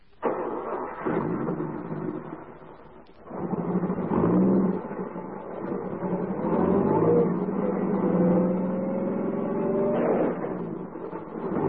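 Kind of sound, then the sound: vehicle, car engine revving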